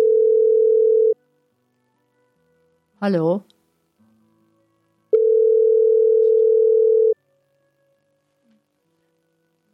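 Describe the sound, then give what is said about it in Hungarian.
A steady telephone line tone on the Mária Rádió call-in line sounds for about a second, a single voice briefly answers, then the same flat continuous tone returns for two seconds before the line falls silent. “Fogadjuk a következőt, mert itt valamilyen telefoncsöngést hallok, de nem jó ilyen.”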